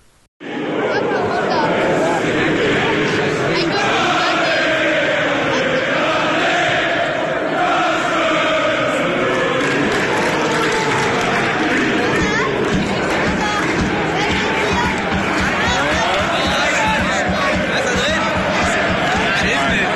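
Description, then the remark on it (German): A football crowd of 10,000 at the Preußenstadion in Münster, at a match against Schalke 04's second team, roars steadily for the whole stretch, a dense wash of chatter and cheering with no single voice standing out and no pauses. “Ein kleiner Eindruck aus dem Preußenstadion.”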